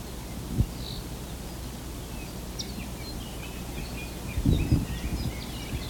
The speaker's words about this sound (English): The whistles in the background, I think, are the laughing thrush, Garrulax, something or other.